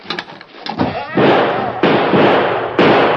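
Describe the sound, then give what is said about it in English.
Three loud gunshots go off about a second apart, each a sharp crack followed by a long, rough decay, after a brief rustle of faint sounds at the start; the shots are fired at the Lone Ranger and go too high. “You were trying to kill me, so you shot too high.”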